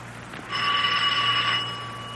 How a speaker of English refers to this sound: Ring the bell. Don't hesitate, Markheim. Ring it.